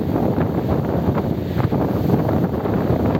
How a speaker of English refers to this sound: Look how windy it is, guys. Look at my fishing rod. That thing's gonna take off, man.